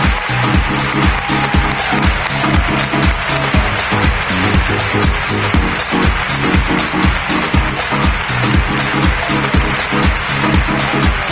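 A crowd claps and cheers loudly and steadily over pounding rhythmic music with a heavy beat, the noise sustained at full level for the whole stretch without letting up.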